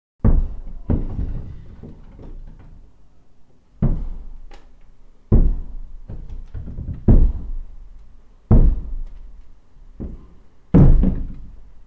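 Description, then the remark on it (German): Heavy footsteps thud, about ten loud, resonant impacts at uneven intervals with short pauses between groups, each ringing briefly, with no voices. “Take three. Schritte.”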